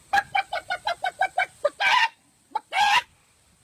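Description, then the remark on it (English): A voice imitates a chicken: a quick, even run of about nine clucks, then two longer, drawn-out squawks with a short pause between them, loud. “I've heard you do chicken things.”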